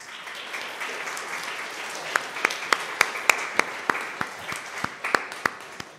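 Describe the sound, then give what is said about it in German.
A crowd breaks into steady applause for volunteers being thanked with a small gift, a dense wash of many hands clapping with a few sharp, louder claps standing out in an irregular rhythm, sustained at moderate volume without anyone speaking. “Und ich glaube, das ist auch ein Applaus wert, wenn jemand sich in einem Ehrenamt betätigt und sagt, ich stehe für eine Aufgabe zur Verfügung.”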